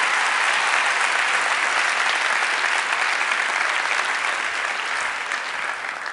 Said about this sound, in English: These all belong to you, along with a big round of applause from all your friends.